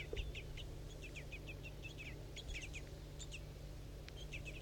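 A banded bird, known as 4-3, calls repeatedly in short, high chirps during feeding, with two juveniles pestering the female for food. The calls come in quick clusters over a steady low hum, with no voices present.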